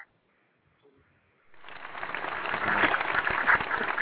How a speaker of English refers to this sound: Where's our background cheering and our sound effects?